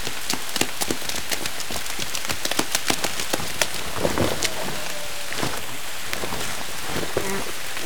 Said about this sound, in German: Und ich muss auch aus dem Regen raus.